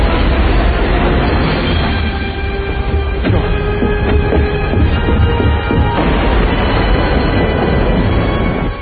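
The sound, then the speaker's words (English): A subway train roars along the rails in a loud, steady rumble, with a high metallic squeal rising over it for a few seconds midway before the rumble carries on alone. “I think pretty impressive miniature work when it comes to the subway stuff.”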